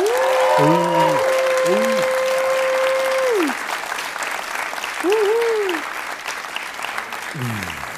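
A crowd applauds loudly and steadily for the full eight seconds, a dense clapping wash, while long held and swooping whistle-like tones rise and fall above it.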